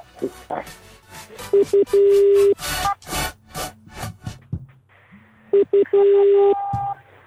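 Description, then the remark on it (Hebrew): Telephone keypad tones beep in quick bursts as a telephone number is dialed, each run ending in a longer held tone, repeated twice, with rough scraping and rustling noises and faint voices in between. “יאללה, ננסה עוד מספר.”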